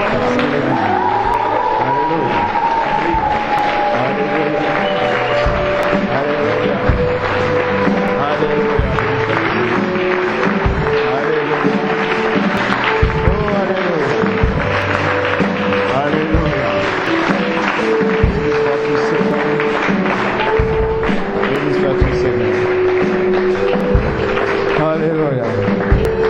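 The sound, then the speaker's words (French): An audience claps and cheers steadily for the whole stretch as an offering of acclamation to the Lord, a dense, loud wash of applause with raised voices and sustained tones running through it. “Alors ensemble, nous pouvons offrir une offrande d'acclamation, Seigneur.”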